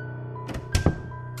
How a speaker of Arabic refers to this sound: صوت باب بيفتح قطع أفكاري. لفيت راسي وبصيت من فوق كتافي، على الناحية التانية من الليفينج قدام المدخل باب البدروم كان مفتوح، فتحة صغيرة مبينة وراها خط رفيع من السواد.